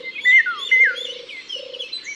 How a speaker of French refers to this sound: comme le loriot qui vient d'arriver lui aussi. Son chant est très facile à reconnaître. On dirait un garçon qui siffle les filles, non ?